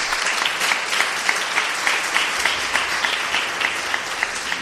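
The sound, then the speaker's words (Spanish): Steady audience applause for an artist exhibiting his work at the Círculo Mercantil, many hands clapping together in a dense, sustained patter that fills the whole stretch at an even, moderately loud level, with no voices over it. “Un aplauso para él.”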